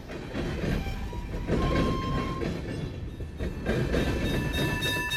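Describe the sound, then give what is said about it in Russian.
A tram rushes along the rails, a steady loud rumble and clatter of wheels with thin metallic squealing tones running through it, with no voices. “На рельсах лежат связанные 5 человек, и на них мчится трамвай.”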